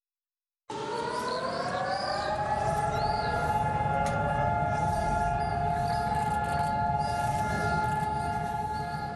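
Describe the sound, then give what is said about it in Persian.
A loud civil-defense siren sounding across Israel on a Tuesday, marking two minutes of silence in honor of fallen soldiers and attack victims, starts abruptly, climbs briefly in pitch, then holds one long, steady droning wail over a low outdoor rumble, continuing unbroken to the end. “روز سه‌شنبه در سراسر اسرائیل این آژیر به صدا درآمد و تمام اسرائیلی ها به خاطر ادای احترام به 23,700 سرباز اسرائیلی و بیش از 3,000 قربانی حملات دهشت افغانی در اسرائیل برای مدت 2 دقیقه سکوت اختیار کردند.”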